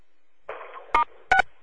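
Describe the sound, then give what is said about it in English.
A burst of hissy phone-line noise, then two short, sharp electronic beeps a moment apart, each a bright two-toned chirp like a telephone keypad tone. No one speaks. “Heard some other beeps.”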